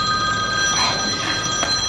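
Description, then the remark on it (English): A moving truck sounds with a steady, shrill tonal ringing held for a couple of seconds over a low, continuous rumble, fairly loud throughout, with no one talking. “That's the moving truck.”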